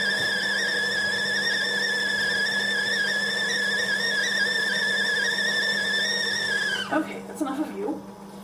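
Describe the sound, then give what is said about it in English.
A stovetop kettle whistles steadily at a high, wavering pitch for several seconds as it comes to the boil, loud, then abruptly cuts off, followed by a few faint clinks and a brief voice. “But I rather like a whistling tea kettle.”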